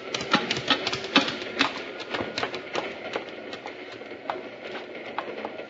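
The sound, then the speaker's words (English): A moving cattle train rattles along with a steady run of sharp metallic clacks and soft thumps, moderately loud, with no voices. “The next time I get on a train, I'm going to be doggone sure it's at the depot and standing still.”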